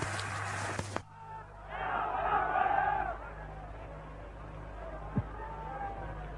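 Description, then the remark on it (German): A large street crowd at an endless torchlight procession with huge masses of people on the move, as an SA contingent and its marching band music pass: a dense roar of many voices that swells loudly for a second or two, then settles into a steady murmur over a low, constant hum. “Der Zug ist endlos, der Zug geht weiter, es sind unglaubliche Menschenmassen unterwegs.”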